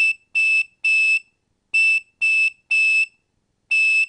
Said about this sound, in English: I was playing that on a Captain Crunch whistle, need I say more